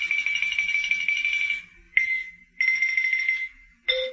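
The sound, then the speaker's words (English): A xylophone plays rapid tremolo rolls on high, ringing notes in several sustained bursts, ending with a sharp drop to a lower note. No one speaks. “Well, there's got to be some legal way to kill xylophone players.”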